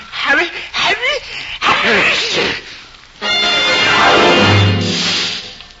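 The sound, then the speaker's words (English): A voice acts out a sneeze: several rising, wavering 'ah' build-up breaths followed by one long, loud, hissing burst that trails off slowly. “The huge pixie reached out in the direction of the sneeze, and because his arm was so long, he grabbed Johnny before he could move.”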